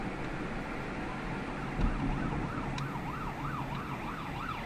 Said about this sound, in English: Ah, it's the ambulance. Ambulance. The story is that someone got stabbed or whatever.